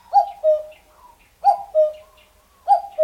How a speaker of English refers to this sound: This is a recording from the website eBird, not of the cuckoo spotted in New Hampshire.